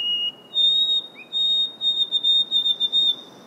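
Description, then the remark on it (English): A white-throated sparrow sings clear, pure whistled notes in Acadia: a steady tone stepping up to a higher held pitch, then breaking into a quick series of repeated notes over a soft background hiss. “And the white-throated sparrow.”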